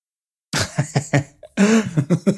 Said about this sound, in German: Aber was hustet meine Frau jetzt? Eine Ehefrau ist am Husten. Vielleicht muss ich gleich mal bei ihr vorbeigucken.